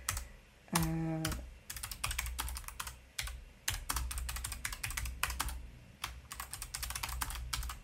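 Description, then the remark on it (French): Rapid, uneven clicking of keys on a computer keyboard as someone types up a short poll, fairly loud, in bursts with brief pauses, plus a short low tonal hum near the start. “Hop, il faut toujours que j'arrive à utiliser ce clavier.”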